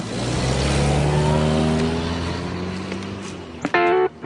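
A car engine roars as House drives off from the side of the road after Lydia gets out, its tone sliding lower and slowly fading, then a short, loud, tonal blare cuts in near the end.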